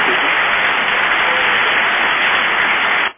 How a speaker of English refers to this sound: Hold on a second, man. We're going to clap in the studio for you, okay?